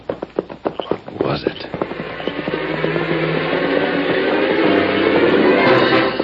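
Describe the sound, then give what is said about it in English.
Slow, steady clip-clop of a horse's hooves, clear at first, soon buried under a swelling crowd of rowdy voices shouting taunts that carries on loudly to the end. “Background of taunts against the slow rhythm of the horse's hoofs, the Lone Ranger tried to recall every detail of the cabin in the woods.”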